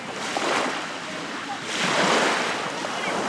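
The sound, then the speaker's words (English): Waves of Cape Cod Bay wash steadily onto a shore below bluffs, with two broad swells of surf rising and falling in a continuous hiss, with a light breeze in the background. “Looking over the bluffs at the Cape Cod Bay, it's such a picture-perfect scene.”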